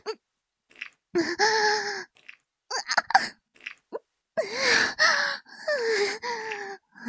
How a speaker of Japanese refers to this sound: 興奮した息遣い、めっちゃ聞こえてくるんですけど。